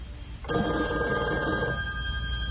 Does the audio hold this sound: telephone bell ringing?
yes